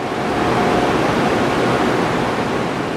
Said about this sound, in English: She says we can't stay here for more than a few minutes because of the sound of the generators, which can reach nearly 100 decibels.